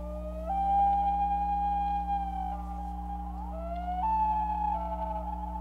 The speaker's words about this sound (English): How many know what bird that is? Go ahead. Right, that's a common loon. Yep, that's a common loon.